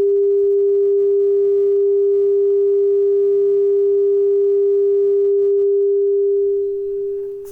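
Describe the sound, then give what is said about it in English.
A loud, steady sine wave tone hums continuously for several seconds, held level by a recorder's limiter, then dips slightly in volume near the end with faint background rumble underneath. “I'm approaching the sine wave now.”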